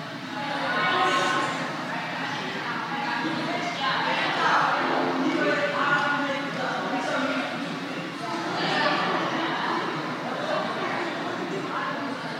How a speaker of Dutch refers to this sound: En ik smeer er zeep op. En dan vervolgens natuurlijk een heleboel water onder de kraan.